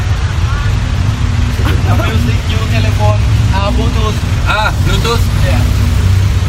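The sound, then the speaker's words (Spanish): A car's engine rumbles loud and steady, a continuous low drone throughout, while people talk over it in bursts. “Graba el coche fantástico.”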